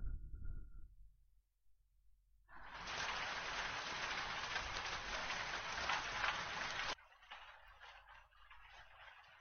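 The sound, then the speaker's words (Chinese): After a quiet opening, a steady roar of heavy rain abruptly sets in, dense and close, then drops to a lighter, softer patter of rainfall for the final seconds. “真的下雨了”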